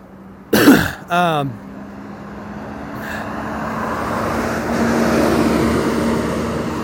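After a brief throat clear, a loud bus rumbles by outside, its broad engine and road noise swelling steadily and staying heavy through the end.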